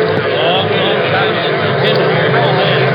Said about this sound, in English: A crowd has gathered around the station, and the train can be seen in the distance.